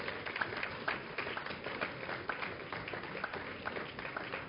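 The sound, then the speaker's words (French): An audience applauds steadily after candles are blown out on a cake for the 10th anniversary of the Bourse Charlefoix, a dense, even patter of many hands clapping at once with no voices rising above it. The clapping stays at a fairly constant, moderate level. “On peut les applaudir, bravo.”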